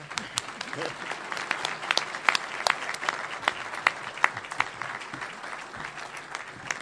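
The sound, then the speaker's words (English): An audience claps steadily as a woman is presented with an award, a dense patter of many hands with sharper individual claps popping out, sustained at moderate volume for several seconds without a break. “Once again, please applaud and show your appreciation.”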